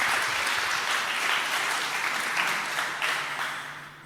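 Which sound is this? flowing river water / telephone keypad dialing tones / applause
applause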